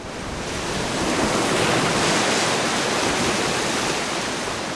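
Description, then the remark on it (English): Ocean waves crash against the eroding coast of the village of Shishmaref in a continuous, loud roar of surf that swells briefly and then eases slightly, with no voices. “To the west, waves have taken an enormous bite out of the coast, 25 feet deep.”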